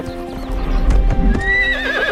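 A horse gallops with quick, loud pounding hoofbeats, then lets out a high, wavering neigh near the end. No one speaks.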